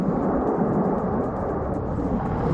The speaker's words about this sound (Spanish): pues es el sonido del avance de un magma muy líquido grabado esta misma mañana a poca distancia. Si nos fijamos, incluso se oye, ¿eh? Se oye por ahí el crepitar de ramas mientras son arrasadas e incluso se escucha también la ebullición de la lava.